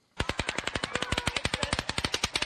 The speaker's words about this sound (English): what led him to open fire on the crowd attending an outdoor country music festival